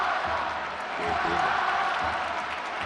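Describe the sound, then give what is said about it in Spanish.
A large stadium crowd roars and chants the name of Morata, Spain's captain, in unison, a dense, steady wall of voices that swells slightly midway and holds loud throughout. “Oye, oye lo que grita el campo.”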